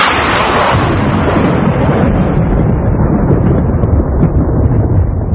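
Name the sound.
thunder sound effect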